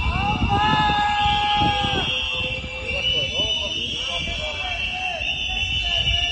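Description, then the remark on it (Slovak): A crowd of protesters in Prague whistles at Robert Fico's arrival at a V4 summit, shrill sustained high-pitched tones layered over one another, with a wavering chorus of lower whistles at the start and loud crowd voices and clamor underneath. “Pri príjazde na dnešný summit ho čakali demonstranti, transparenty Fico idí domů do Ruska a pískanie.”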